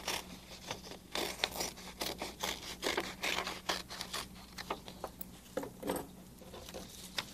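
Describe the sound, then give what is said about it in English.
Scissors snip through a sheet of paper, cutting it into a shape for paper weaving, in a quick, irregular series of crisp cuts with soft rustling between them, with a low steady hum underneath and no one speaking. “And I can cut it in any shape that I like.”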